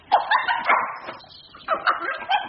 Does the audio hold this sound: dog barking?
yes